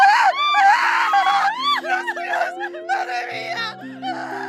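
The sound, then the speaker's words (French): Several women, prostitutes in a living room where a man has just been shot, shriek and wail at once in a sustained, high-pitched chaotic burst, loud, with overlapping cries rising and falling over a low background drone. “Et trois prostituées dans le salon qui crient tout ce qu'elles peuvent crier.”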